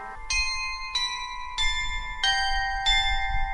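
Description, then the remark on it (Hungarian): A clock's chime of 14 real bronze bells plays a slow melody, with a new ringing tone struck roughly every two-thirds of a second, each overlapping the last as it sustains, with a low rumble beneath. “Bezárulnak az ajtók, és ugye a harang, amit említett, az 14 darab valódi bronzharang, valóban a harangok szólaltatják meg a zenét.”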